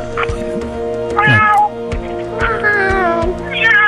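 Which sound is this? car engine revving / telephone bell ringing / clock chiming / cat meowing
cat meowing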